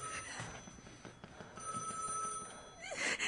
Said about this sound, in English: answer the phone. Oh, please be there.